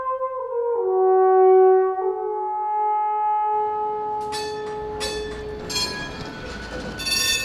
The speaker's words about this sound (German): Die Straßenbahn fährt entlang des Flüsschens Limmat in Richtung Zürichsee.